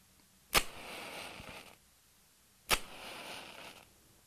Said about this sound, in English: Every Friday night, when the sun goes down, Jewish families sit down together for a very special meal. Let's listen to them now. First, the mother lights 2 candles.